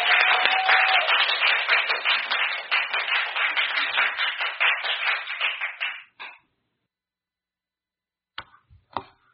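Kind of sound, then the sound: crowd, audience applauding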